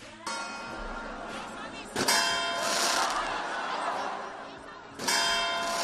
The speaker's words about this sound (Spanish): Han sido los más pequeños en lo que se ha convertido hoy en una tradición también en Valencia, las campanadas infantiles.